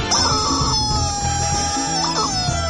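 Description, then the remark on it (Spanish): A chicken called Pollito lets out a loud, drawn-out crowing battle cry, rooster-like and held steady for a couple of seconds, with a busy, noisy background underneath. “¡Qué bárbaro ese grito guerrero, mi querido pollito!”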